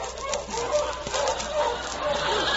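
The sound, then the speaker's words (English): A crowd of dogs barks and yaps all at once in a dense, overlapping din inside a city dog pound, the noise steady for the whole stretch with no pauses. “Let's join Alan as he enters the city dog pound.”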